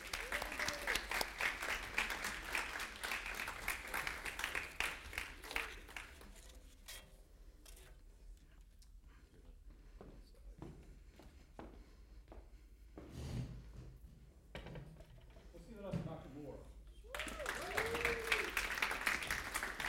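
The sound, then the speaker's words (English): An audience applauds the panelists of a panel discussion as they come up, with dense, steady clapping that fades away, followed by a quieter stretch of shuffling and faint voices, then a second loud round of clapping near the end. “Clap for them as they come up.”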